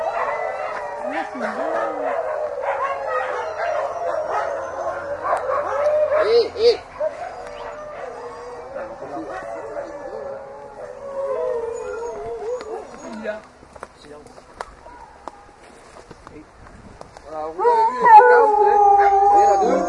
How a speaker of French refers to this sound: Les chiens. On essaie de ne pas traverser ici. Voilà, ton central. Voilà. C'est un petit peu impressionnant quand on les voit comme ça, quand ils aboient et tout. Ne vous inquiétez pas, il n'y a aucun chien de méchant.